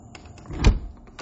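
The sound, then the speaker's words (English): A door moves noisily, with a short scraping rattle that swells to a dull low thud midway and then fades, fairly loud, with a few faint clicks around it. “fuck up, door.”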